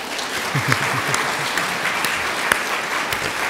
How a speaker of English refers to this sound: If you feel like clapping, you can clap, but do it properly.